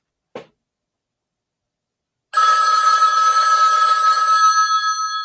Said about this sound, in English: The phone rings.